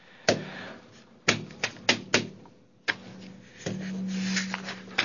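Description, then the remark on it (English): A hand bangs on a table in a string of about seven loud, hollow thuds at an uneven pace, with a low steady hum filling the last stretch. No one speaks. “Because when I bang on a table like that, I sound like Rush Limbaugh on steroids.”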